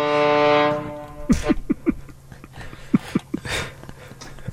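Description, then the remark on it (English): A loud, steady foghorn blast sounds for about a second and then cuts off, followed by a scattered series of short, sharp, bark-like sounds. “Is make sure that you bring your foghorn.”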